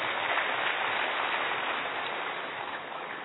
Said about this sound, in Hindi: भाई ताली बजाइए इनके लिए।